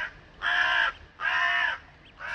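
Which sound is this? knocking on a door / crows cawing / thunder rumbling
crows cawing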